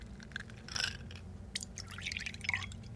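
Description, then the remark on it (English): Whiskey is poured into a glass in an office, with a brief splash followed by a longer run of trickling, gurgling glugs over a faint low hum. “He offered us both a glass, and of course we couldn't say no.”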